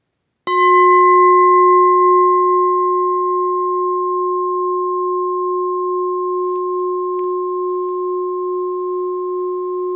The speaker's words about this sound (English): There's certain labels that we attach to the fart and certain labels that we attach to the ringing of the bell.